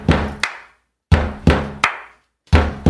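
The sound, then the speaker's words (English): A drummer knocks a song's beat on a door in a repeating rhythm: two heavy, booming thumps followed by a sharper, brighter rap, then a pause before the pattern starts again. No one speaks. “This is a drummer knocking on a door. What song is he drumming?”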